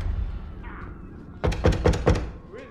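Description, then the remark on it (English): Death shuts the door of a house with a quick cluster of four or five heavy thuds in rapid succession, preceded by quiet background noise and no speech. “Death goes into a house and shuts the door on them.”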